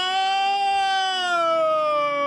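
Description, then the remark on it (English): A voice imitates a wailing siren as a horrified scream, a sustained high scream with a strong harmonic tone that slowly glides downward in pitch, loud, with no other sounds. “That's like an English siren?”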